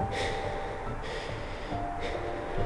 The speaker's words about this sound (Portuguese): Sente a respiração ofegante de uma figura misteriosa